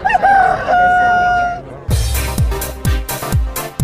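A single rooster crows loudly, a long strained cock-a-doodle-doo, then punchy rhythmic drum beats take over, hitting several times in quick succession.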